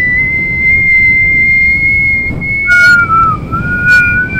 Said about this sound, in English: I can't whistle.